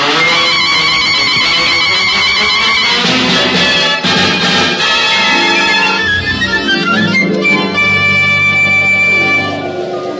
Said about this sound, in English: Plus, a medley of various musical effects.